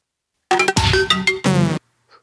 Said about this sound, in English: It's the weirdest sound that any Mac can possibly make when it starts up. The Quadra AV Chimes of Death.